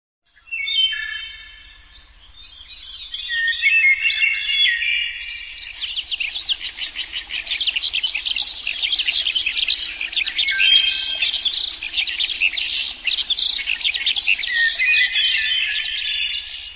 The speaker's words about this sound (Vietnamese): Chưa tới 5 giờ, trời đã sáng trưng, âm thanh líu lo của chim họa mi và anh tước từ máy cassette được phát ra dụ khị. Lập tức, vọng trong rừng đã có các bạch mi, chào mào, khứu, thứ thiệt, hồi đáp.